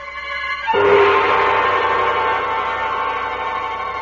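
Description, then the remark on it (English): A train crosses a bridge, a loud, steady roar of wheels and clattering cars that swells suddenly and then holds at a constant pounding level, with faint whistle-like tones riding on top. “I wait till the train goes over the bridge.”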